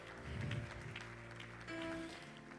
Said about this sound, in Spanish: Aplauda la misericordia de Dios aquí hoy, por favor.